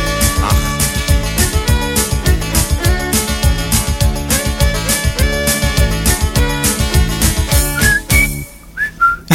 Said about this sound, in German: Ich war das nicht. Nein, ich kann nicht so schön pfeifen. Ja, im Hilli-Billi-Sound. Super. Ja. Nein, es hat ein Musiker gepfiffen, der, glaube ich, nicht mehr Musikgeschäft ist.